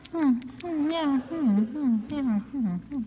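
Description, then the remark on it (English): A voice imitates a cat, making a string of drawn-out, wavering meows, rising and falling in pitch without pause for about three seconds. “He was able to feed his cat nothing but the most expensive tuna. Meow.”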